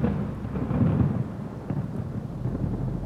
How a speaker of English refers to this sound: As rain battens your coat, you dive in the cloud. The world goes dark before your eyes, except for the nearby bright flashes of lightning accompanied with the roaring sound of thunder.